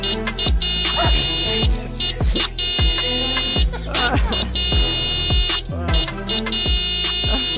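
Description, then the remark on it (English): A rapid, steady string of high electronic beeps plays loudly over a thumping low beat that pulses about twice per second, with barking-like bursts mixed in throughout. “Oh, that's a lot of beeps.”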